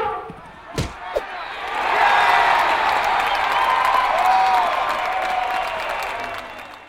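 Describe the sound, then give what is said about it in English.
At a football match for mahouts and their elephants, a crowd breaks into steady applause after a couple of sharp thuds as the elephant Koo hits the ball into the goal; the clapping swells quickly and holds loud before tapering slightly, with faint voices mixed in. “Then she hits the ball into the goal and everybody applauds.”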